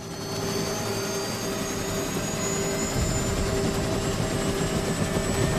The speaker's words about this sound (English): Logan straps himself into a seat in the rear and then signals for the helicopter to take off.